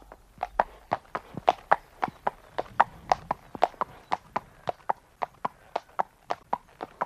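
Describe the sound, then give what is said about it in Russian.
Steady hoofbeats of a horse with a rider on its back as it sets off at a walk, an even clip-clop pace of about three strikes per second, crisp, with no voices over them. “Тронулся конь. Просыпается на ходу.”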